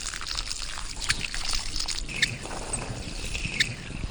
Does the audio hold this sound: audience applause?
no